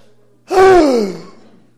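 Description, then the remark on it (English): A single deep, audible breath drawn in sharply, voiced like a loud gasp, then trailing off over about a second. “If you had to think about breathing, you'd be up all night going, "Take a breath, take a breath."”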